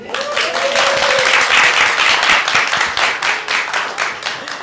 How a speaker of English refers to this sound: We have a live audience today, students from our Women's Leadership Program. There they are. You can applaud.